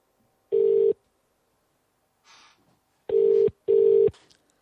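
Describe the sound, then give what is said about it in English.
Three loud, steady electronic telephone tones: one short beep, a pause with a faint brief noise, then two more beeps in quick succession, like a phone line dialing and ringing, as a caller rings someone back after a bad line. “I'll call you back one more time.”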